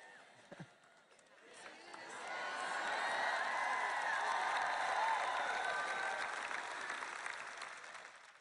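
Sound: audience clapping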